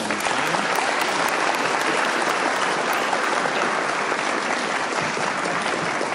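A crowd claps steadily for about six seconds, a dense, even wash of many hands applauding at a constant loud level with no voices rising above it.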